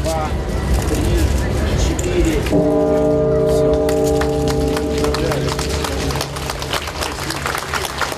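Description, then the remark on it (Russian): Church bells from the recreated bell tower in Tula, Russia, begin ringing after a few seconds of crowd murmur, a loud deep strike blooming into long, sustained humming tones while the crowd noise continues beneath. “Начало колокольного звона в воссозданной колокольни.”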